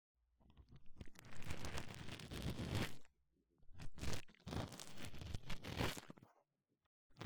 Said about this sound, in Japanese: ほとんどの耳垢を除去できましたので、綿棒を使って細かな耳垢を絡め取り、同時に耳壁のマッサージをしていきます。こちらの細めの綿棒をお耳穴に差し込みます。